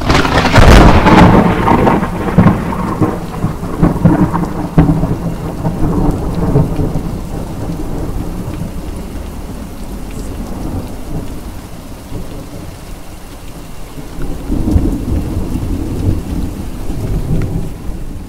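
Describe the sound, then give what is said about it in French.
A stormy sea with big waves during a rough sea crossing: a loud, rumbling crash opens, then fades into a steady roaring wash before another heavy surge swells near the end. No one speaks. “C'est exact, et après une traversée agitée en mer avec de grosses vagues, nous voilà arrivés sur l'île de la colère.”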